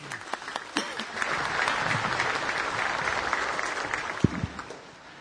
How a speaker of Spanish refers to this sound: Por eso le damos la bienvenida con este caluroso aplauso.